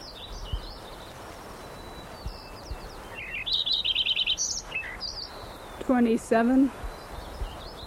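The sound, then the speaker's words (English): Lincoln's sparrow song: a varied string of high, bubbly chirps and a quick buzzy trill, ending in two sharp sweeping notes, heard alone over a soft background hiss. “Lincoln Sparrow number 5 continued.”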